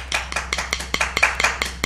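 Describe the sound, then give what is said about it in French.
Applause with distinct, evenly spaced claps, as from a few people clapping together rather than a large crowd, fairly loud with no voices, applauding a group after a music game. “Applaudissez le groupe”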